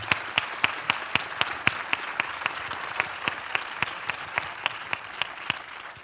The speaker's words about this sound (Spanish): pero por organizar esto y por invitarnos y por dejar que presentemos nuestros premios y este comienzo de un ojalá futuro editorial, pues pido un fuerte aplauso para los organizadores.